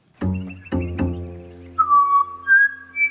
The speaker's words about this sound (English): I listen to a pied butcher bird, and I hear the same methodology. They have this little theme that they set up, and then they can wander off on all sorts of magical improvisations